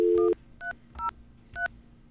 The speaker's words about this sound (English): How about an old school recording of a phone call not going through?